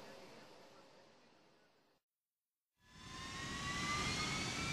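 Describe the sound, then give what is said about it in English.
A big, heavy jet airplane with jet engines on its wings, cleared for takeoff, roars down the runway, its engines droning, then after a brief silent break returning louder with a rising, high-pitched whine as power builds. “It zooms along the runway and soars into the sky.”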